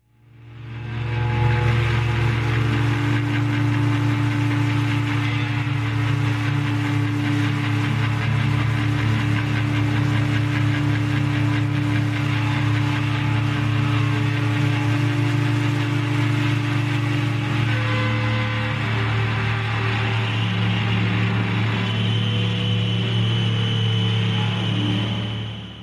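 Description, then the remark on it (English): Loud, continuous amplified guitar noise, made by a guitarist deliberately making his amplifier sound like a tractor, drones for the whole stretch, a thick low rumble with steady buzzing overtones that sounds much like an idling tractor engine. No one speaks. “making his amplifier sound like a tractor.”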